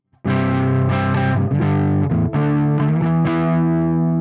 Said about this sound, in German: Machen wir jetzt erst nochmal hier diesen Crunch. Aber jetzt gehe ich hier erstmal wieder auf Lautstärke ein bisschen zurück. Das ist der Crunch Channel. Ist der Chorus jetzt noch an? Ich glaube ja.